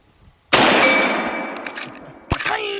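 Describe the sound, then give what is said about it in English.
A loud gunshot cracks and booms with a long, rolling decay, followed about two seconds later by a sharp metallic ping as the round strikes a distant steel gong that keeps ringing. “When you're hitting something and you hear the pa-pine. The one far away is a big gong that he hits.”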